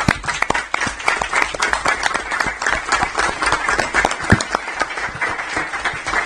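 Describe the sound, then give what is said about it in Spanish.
Steady applause from a group, dense overlapping claps at an even loudness that carry on for several seconds without pause, with no one speaking over it. “Sin más, pues adelante con el aplauso.”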